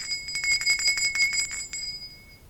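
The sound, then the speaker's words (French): A small hand bell, taken from a mantelpiece, is shaken rapidly with full force, producing a fast, jangling run of bright metallic strikes for about two seconds before one last clang rings out and fades. “Il alla prendre une sonnette sur la cheminée et l'agita de toutes ses forces.”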